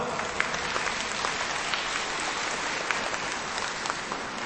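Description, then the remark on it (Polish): Steady, dense applause from a crowd at a parish gathering, greeting the parish priest, the priests serving the parish and the organizers, a continuous wash of many hands clapping with scattered sharper claps, sustained at an even level for several seconds with no voices standing out. “Gorące brawa!”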